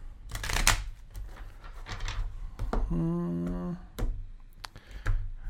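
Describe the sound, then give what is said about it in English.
A deck of cards being shuffled, with a few quick papery riffle bursts and light snaps, broken by a brief tonal hum partway through and ending in sharp clicks. “we got one more shuffle for Tara”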